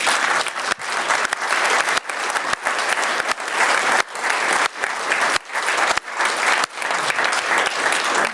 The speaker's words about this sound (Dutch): Mag ik, dames en heren, een applaus op dit moment voor deze mensen.